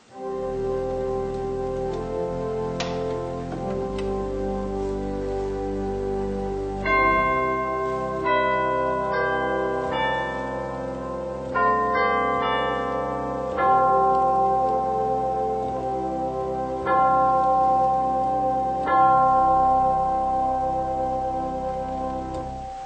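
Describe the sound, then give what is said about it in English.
Soft chimes from the single percussion stop of a fairly large pipe organ ring out a slow, bell-like melody over sustained low organ tones, each struck note blooming and decaying gently, with no voices present. “We have one percussion stop, and that's the chimes.”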